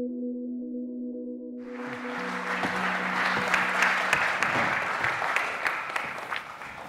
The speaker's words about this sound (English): Gosh, I love getting applause for doing nothing. Please carry on.